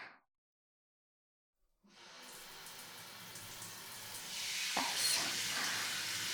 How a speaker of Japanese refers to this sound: 頭はタオルじゃ無理なので、シャワーしましょうか。